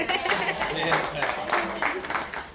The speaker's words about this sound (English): Oh, you can clap.